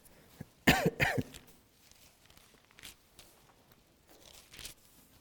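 Two quick, harsh coughs into the mic, one right after the other, followed by quiet background noise and a few faint shuffling sounds.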